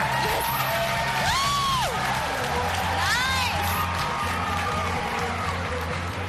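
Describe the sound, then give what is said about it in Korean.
A large crowd at a minor league baseball game in Boston fills the air with continuous cheering, whoops and shouts rising over a steady roar, with individual voices calling out and rhythmic low thumps underneath. “미국과 한국의 응원 분위기가 확실히 다르다는 걸 느꼈는데요.”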